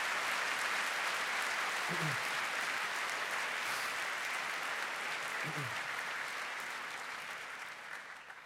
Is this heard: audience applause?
yes